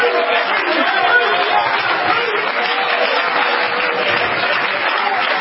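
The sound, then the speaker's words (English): An audience at an evening church service claps their hands to the Lord, a dense, even wash of clapping hands that holds at a constant loudness for several seconds, with a murmur of voices mixed in. “Somebody clap your hands to the Lord in this house tonight.”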